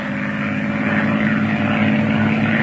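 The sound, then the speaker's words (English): A propeller airplane climbs to 2,000 as it flies along a coastline, its engine droning steadily and loudly with a low buzzing hum and rich harmonic layers that hold constant throughout, no voices present. “Fly along the coastline and check my chart. Up we go to 2,000 for a map's eye view.”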